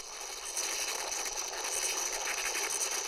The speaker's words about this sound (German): In dem anderen Glas, das Cornel Adler aus der Zuchtkammer mitgebracht hat, sind 2 Wochen ältere Kornkäferlarven und die klingen weitaus hungriger.